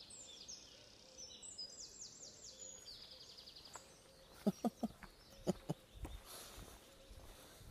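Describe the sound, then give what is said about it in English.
Faint bird song: a series of high, chirpy trilled notes drifting over a soft outdoor background, followed by a few louder, clipped calls near the end. “This is a bird song.”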